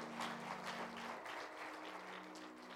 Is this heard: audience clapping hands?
yes